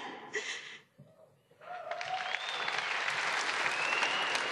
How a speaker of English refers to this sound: I was going to be pissed if they didn't applaud for that one.